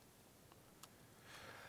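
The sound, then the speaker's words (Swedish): Two quick, faint clicks of a computer mouse, spaced a moment apart, against a low background hiss that swells slightly toward the end. No one speaks. “Måste klicka där först.”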